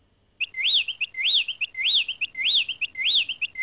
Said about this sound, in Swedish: Eller lyssna till fåglarnas sång.